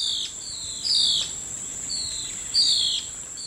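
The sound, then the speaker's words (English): A blue-faced ocellated antbird, clinging to a thin plant stem and waiting for flying insects, calls with a series of clear, downward-sliding whistles, repeating every second or so over a steady, high-pitched drone of insects in the forest. “Clinging to a thin plant stem above the fray, the blue-faced oscillated ant bird waits for flying insects to leave their hiding spots, then swoops in to catch them.”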